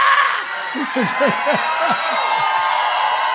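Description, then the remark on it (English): An audience breaks into screaming and cheering: a dense, sustained roar of many voices, with scattered short whoops and falling cries rising out of it, loud throughout. “I feel somebody want to scream, but they just don't want to scream. But they really want to scream.”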